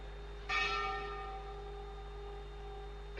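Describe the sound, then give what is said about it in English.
A single church-style bell strikes once and rings out, its bright metallic tone slowly fading over a low steady hum. No one speaks. “The bell is ringing.”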